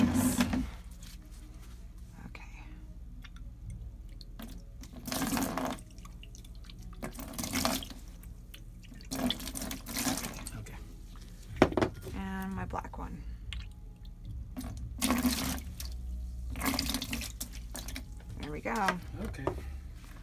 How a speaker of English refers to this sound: I don't know if you can see, it's kind of dark, but just rinse it out really, really well.